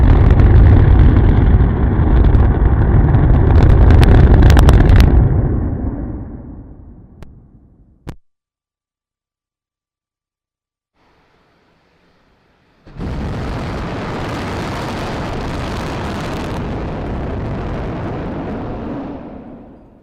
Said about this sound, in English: this test was conducted at about 50% throttle on those 31 engines, then the launch attempt would be at about 90% throttle, just a little bit of safety margin for that first flight.